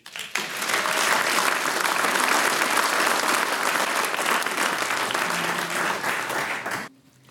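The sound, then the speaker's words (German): Loud, sustained applause from an audience for a singing group at a premiere concert. The dense wash of clapping holds steady for several seconds before cutting off abruptly, with faint crowd murmur underneath. “Und der nächste Applaus, der gehört natürlich euch.”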